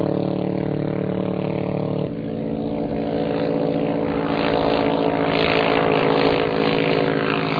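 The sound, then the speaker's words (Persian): A steady, droning propeller engine hums as a Bavar 2 flying boat of Iran's IRGC Navy passes during a naval exercise, its pitch shifting slightly midway, with a broad rushing noise swelling toward the end. No one speaks. “نام این قایق‌ها پرنده باور 2 است.”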